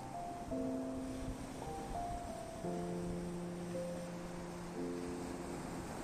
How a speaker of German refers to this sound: Und während du die Augen schließt und dem Rauschen der Wellen lauschst, merkst du, wie eine angenehme Müdigkeit durch deinen gesamten Körper strömt.